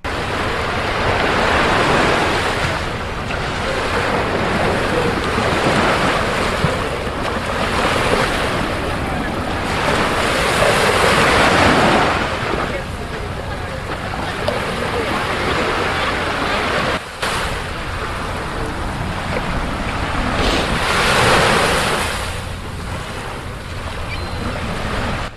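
Steady roar of ocean surf washing onto the beach at Brighton Beach, New York, with broad swells of rushing noise rising and falling every few seconds, mixed with gusty wind buffeting the microphone.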